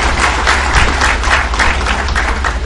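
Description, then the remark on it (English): An audience applauds steadily, a dense crackle of many hands clapping at once with gentle swells in intensity, continuing at a fairly loud, even level without any voices over it. “All the applause goes to Prabhupada.”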